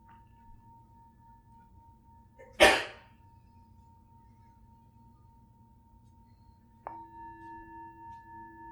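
A meditation bell rings: a sharp, bright strike, then a second stroke that blooms into a sustained, clear tone with a slow, wavering pulse as it hums on.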